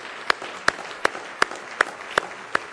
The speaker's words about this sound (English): Somebody say praise the Lord. Let's just give the Lord a real good hand clap of praise tonight in the house of the Lord.